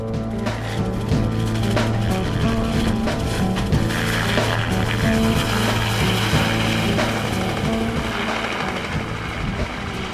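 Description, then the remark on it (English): A bright yellow helicopter's engine roars steadily throughout in a snowy setting with 3 feet of fresh snow, a loud, dense mechanical drone with a deep humming tone and a rapid chopping texture underneath. No one speaks. “I heard the bright yellow helicopter long before it appeared from the horizon.”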